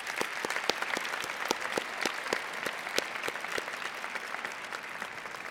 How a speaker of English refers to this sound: Graduates, please join me in a round of applause for your family members and friends.